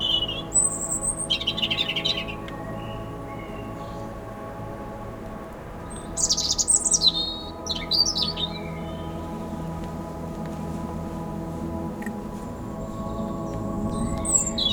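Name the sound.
bird singing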